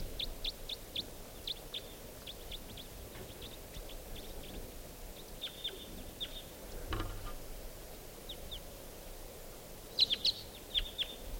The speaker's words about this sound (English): And so there's a lone type 2 bird. This is it. Wild bird.